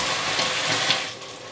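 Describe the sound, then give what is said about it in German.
A steady, crackling hiss of water being slowly poured into a hot pan to deglaze it, loosening the burnt-on residue for a sauce; loud, fading slightly toward the end with a few brief pops along the way. “Ich mache das schön langsam, das zischelt dann so schön. Und bei dem Zischen löst sich das Angebrannte.”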